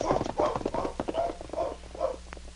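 Horses trot along a trail toward a cabin at a steady, even rhythm, their hooves clip-clopping in repeated bursts with a low hum underneath and no voices.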